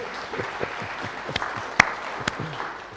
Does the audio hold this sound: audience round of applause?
yes